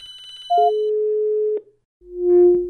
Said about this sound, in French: attends, il y a le téléphone qui sonne sur une autre ligne.